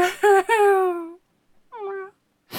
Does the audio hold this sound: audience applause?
no